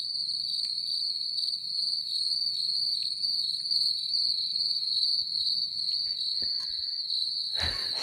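Steady, high-pitched crickets chirp continuously in a quiet night setting, with a soft low rumble underneath and a brief thump near the end; no one speaks.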